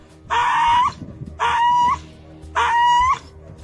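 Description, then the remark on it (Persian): A dog cries out while being brutally killed, from a video shared on social media of the killing of stray dogs by authorities in Tehran, Iran. Three loud, drawn-out, high-pitched yelps, evenly spaced with short pauses between them, with no one talking. “این چاره‌بینی‌ها بعد از آن آغاز شد که در شبکه‌های اجتماعی نوار قتل بی‌رحمانه سگ گریان نشر گردید.”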